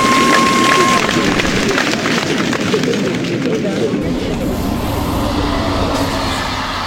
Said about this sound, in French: Waouh! Toujours aussi impressionnant de voir passer les trains. Il n'y a pas que les vaches qui trouvent ça beau. Moi aussi, ça me plaît.